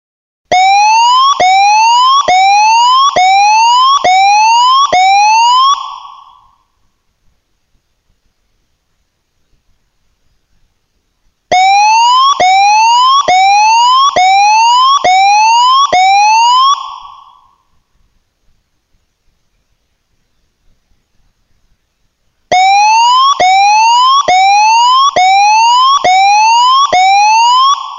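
A loud tsunami warning siren sounds in three bursts, each a quick run of about six rising whoops, separated by several seconds of silence. No one speaks.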